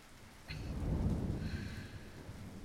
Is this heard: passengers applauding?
no